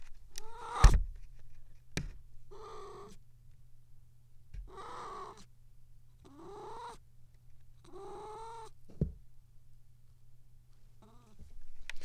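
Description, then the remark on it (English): A cat named Pippa lets out a series of five or so drawn-out, strained yowling meows while pooping in her litter box, with a few sharp scratchy thumps between them over a steady low hum. “That's Pippa, my cat, making funny noises when she does kitty poops in her kitty poop box.”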